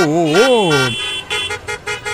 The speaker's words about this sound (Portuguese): Trânsito com Glaucia Araújo. Com vinhetinha e tudo.